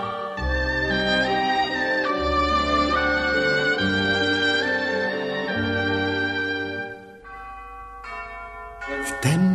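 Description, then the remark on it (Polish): Church bells ring out loudly and continuously, their deep, sustained tones overlapping and humming into one another, with a brief brighter clang near the end. “Słońce stoczyło swą wielką kulę aż na krawędź świata i zaraz zaczęły dzwony bić.”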